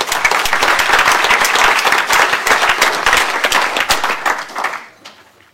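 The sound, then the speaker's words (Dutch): An audience breaks into loud, sustained applause, many hands clapping in a dense, steady patter for several seconds before it thins out and fades away. “En een groot applaus.”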